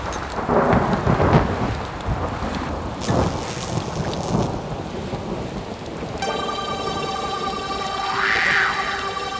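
Heavy rain pours steadily while deep thunder rumbles and cracks through the first half, then sustained droning tones and a rising, wavering cry join over the continuing storm noise.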